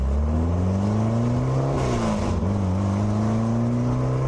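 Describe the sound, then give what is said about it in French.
A Porsche 550 Spider sports car engine revs loudly and steadily, its pitch climbing and dipping through gear-like shifts, with a brief surge of roar midway. No voices are present. “Et il s'est inscrit à une course automobile qui doit se dérouler le 1er octobre 1955 sur les pistes d'atterrissage désaffectées de l'aéroport de Salinas, en Californie.”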